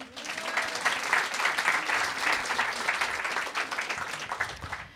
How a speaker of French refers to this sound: C'était pas sincère, je l'ai vu. T'as réussi à les compter, les gens qui avaient oui, applaudi ? Ils étaient 4000.